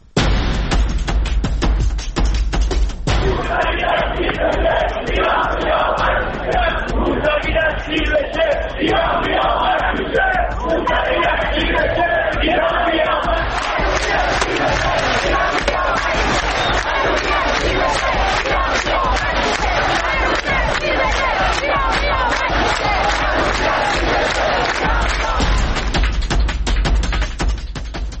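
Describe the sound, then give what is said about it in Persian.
A large protest crowd in the streets of Iran during the 1388 protests chants slogans in unison, loud and sustained, with rhythmic shouted phrases and crowd noise filling the whole recording. “پنج سال میگذره از روزهایی که این شعارها در کوچه و خیابان فریاد زده میشد.”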